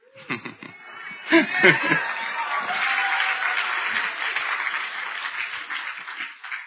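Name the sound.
audience clapping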